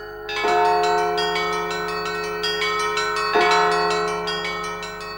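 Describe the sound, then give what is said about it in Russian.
Monastery church bells in Jerusalem, rung by a nun bell-ringer, peal together in a dense, ringing clangor, with repeated strikes every fraction of a second and a heavy bell booming twice beneath, loud with no voices. “И каждый день над вечным городом Иерусалимом разливается звон колоколов.”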